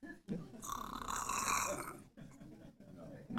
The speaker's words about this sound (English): All you're doing is doing what? Breathing. And some of you are breathing kind of heavy.